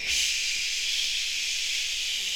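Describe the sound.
A person holds a steady, unbroken hissing "sss" sound for a couple of seconds, even in loudness, with no talking, trying to keep the hiss going as long as possible.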